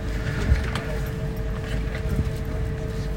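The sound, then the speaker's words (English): A steady low engine rumble and road noise from inside a moving bus leaving St. Petersburg on an 8-hour trip to Helsinki, with a faint constant whine and an occasional soft bump, continuous and fairly quiet, with no talking. “Just leaving St. Petersburg on a bus for 8 hours.”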